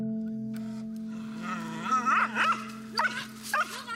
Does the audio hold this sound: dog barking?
yes